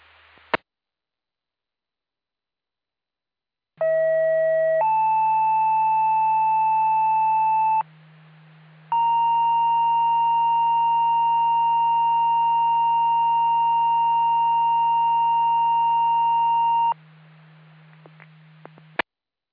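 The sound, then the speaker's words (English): Sequential pager alert tones over a radio channel for the weekly pager test of the Herbal Fire and EMS Department: a short tone, a longer second tone, a brief pause, then one long steady tone, all loud and clear with a low hum beneath. “This is your weekly pager test. Tested for Herbal Fire and EMS Department. Please disregard the tone to set your pagers.”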